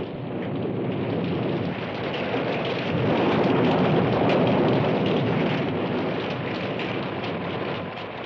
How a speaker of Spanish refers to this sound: La tierra empapada no podía tragar más agua, pero las nubes reventaban cada vez con más furia. ¡Maldita sea! ¡Es granizo! ¡Es granizo!